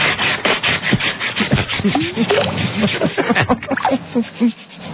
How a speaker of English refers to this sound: Oh, there are some power tools involved in that procedure.